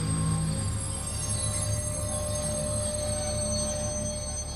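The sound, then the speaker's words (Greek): A steam train rumbles steadily as it comes to a stop on a freezing, snowy night, a dense mechanical roar with thin metallic whining tones riding over it, holding an even loudness throughout with no voices. “Κάποια στιγμή τσαφ τσαφ τσουφ σταματάει το τρένο.”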